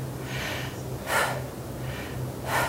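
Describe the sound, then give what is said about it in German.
Short, forceful breaths repeat in a steady rhythm during a breathing exercise, alternating sharp inhales and exhales through the nose, fairly quiet, with no talking. “Auch mal kurz atmen”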